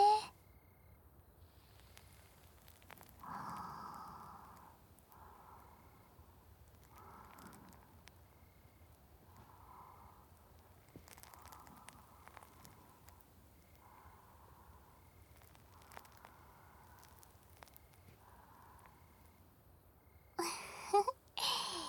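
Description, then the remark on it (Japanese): Soft swishing strokes of a cotton swab dipped in fizzy carbonated water, massaging inside the ear, repeat steadily about a dozen times over faint fizzy crackling, quiet and intimate, ending in a louder rustling burst. “このシュワシュワ炭酸に綿棒を浸してお耳の中をマッサージしてあげます。”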